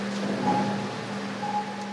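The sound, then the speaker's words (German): Water drips from the vaulted ceiling of a brick-walled sewer tunnel, while diffuse water rushes steadily in the background: a constant hiss with a low droning hum and a faint higher tone running underneath. No one speaks. “Wasser tröpfelt vom Gewölbe. Im Hintergrund hört man diffuses Wasser rauschen.”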